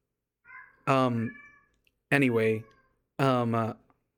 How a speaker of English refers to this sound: Dude, my cat is going insane. I don't know if you guys can hear that, but she's going nuts and I'm sorry.